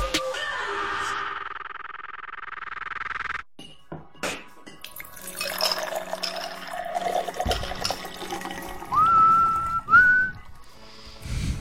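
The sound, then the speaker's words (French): Someone whistles a short tune near the end, clear, bright notes rising over a noisy background that opens with a rushing, water-like wash. “Je connais par cœur à force, je peux le siffler et tout, t'as vu?”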